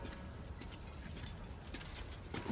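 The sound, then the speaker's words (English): A loose mass of metal clatters and jingles as a chain of bullets is dumped into a truck bed outside while cars are loaded up, with rattling, chain-like clinks spread over a couple of seconds, fairly loud. “Lysol dumps a chain of bullets in Joss's truck”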